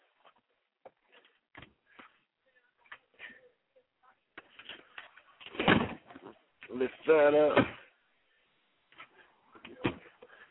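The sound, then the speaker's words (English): Scattered plastic clicks and rustles build to a loud clatter as a car door panel pops loose while a man puts his car back together, with the man speaking briefly in between. “Door panel came off.”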